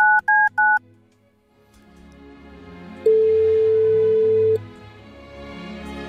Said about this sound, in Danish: Fire bip får man. Så ikke den bliver taget på fjerde ring, så tager vi en mere.